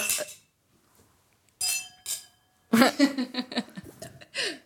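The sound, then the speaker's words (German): Glasses clink together in a toast, two bright taps leaving a sustained high ringing tone, followed by a burst of laughter and overlapping voices. “Stoßen wir kurz an.”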